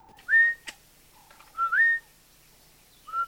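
Two people whistle during a honey hunt at sunrise to call a honeyguide bird: rising whistles repeat three times in short bursts, clear, each a sliding tone trilling upward before cutting off, with brief quiet gaps and a faint click between.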